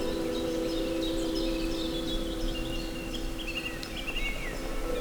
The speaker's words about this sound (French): Des arbres. Une légère brume humidifié les ramures des sapinières. Le chant des oiseaux est omniprésent.